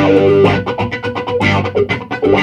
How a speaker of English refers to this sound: This is a wah-wah pedal.